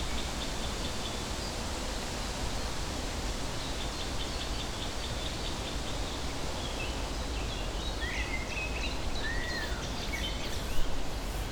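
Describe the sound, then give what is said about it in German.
Faint blackcap song drifts through a steady wash of wind-like hiss, joined late by a few sharp 'kick' calls of a great spotted woodpecker, all partly buried under the constant noise. “Und das ist eine Mönchsgrasmücke, was wir da drin haben. Und das Kick-Kick-Kick der Buntspecht.”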